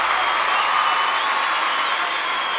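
An audience claps steadily and loudly at the presenter's urging, a dense continuous wash of many hands applauding for the whole stretch, with no voices standing out.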